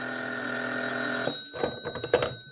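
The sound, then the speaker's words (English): An old-style telephone bell rings steadily for about a second, close and fairly loud, then cuts off into a few sharp clattering clicks as the receiver is handled. “Then the phone rang, and I found out.”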